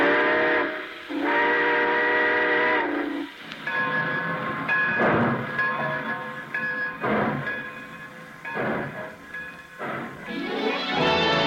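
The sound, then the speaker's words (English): A steam train's whistle blows loud and sustained as the train pulls out at the close of The Railroad Hour radio broadcast, then the engine chuffs away in steady rhythmic bursts while the tone lingers, ending with another rising whistle blast. “All aboard! Well, folks, it looks as though we're ready to pull out.”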